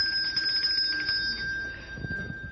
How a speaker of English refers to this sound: But most of the rest of the piece is exciting, and one of the things you can do with bells is shake them.